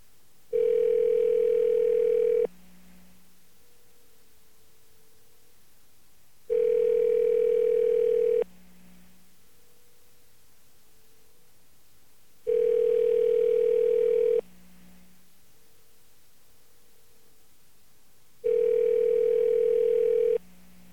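A telephone ringback tone from a call dialed over the radio sounds four times, each steady buzzing ring lasting about two seconds and followed by roughly four seconds of near silence, in an even repeating rhythm with no voices.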